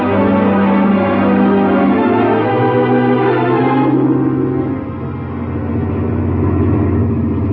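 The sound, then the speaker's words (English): An old truck drives fast on the open road outside Central City, heading for California with huge crates of machinery in the rear. Its engine drones steadily, a loud, continuous low rumble with rattling mid-range noise and no voices, its pitch easing slightly partway through. “That evening, as the ancient truck reached the open road outside Central City, highballing for California”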